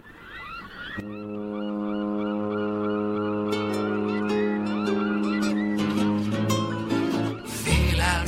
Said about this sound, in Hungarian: Hajó kémény, rettenetes hajó tuta, aztán jön a hajó maga, rajta első nadragúja.